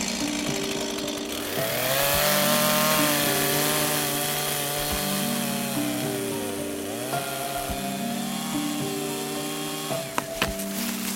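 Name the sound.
chainsaw cutting wood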